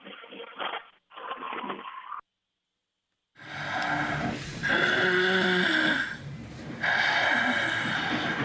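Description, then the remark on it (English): After a few seconds of muffled talk and a brief silence, loud snoring takes over: long rasping, rumbling breaths that swell and repeat in a slow rhythm. “Obstructive sleep apnea may sound like snoring, but it can also sound like a car crash.”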